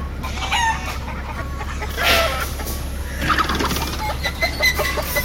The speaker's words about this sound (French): Qu'est-ce qu'ils ont, ces poulets ? Oh, ils sont malades ou quoi ? Non, non, non, ceux-là, ils sont pas très réussis.